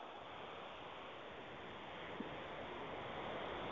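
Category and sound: nature, water waves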